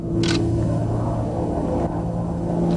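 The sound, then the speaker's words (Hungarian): A diesel-engined land speed record car on a dried lake bed in Utah, USA, during a record attempt, its engine roaring loudly and steadily, a deep droning rumble with humming tones that holds at a constant level throughout, with no voices. “Most a dízel motoros autó kategóriájában kezdődik a kísérlet.”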